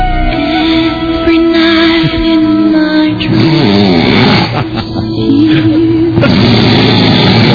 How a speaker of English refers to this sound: It's the greatest snoring tape I've ever heard. It's not a gag. No. Real snoring.